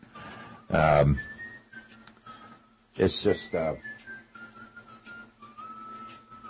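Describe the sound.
Someone whistles faintly in the background, holding long, steady notes that drift in pitch, while bursts of speech come and go over the top.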